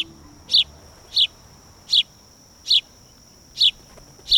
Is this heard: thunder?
no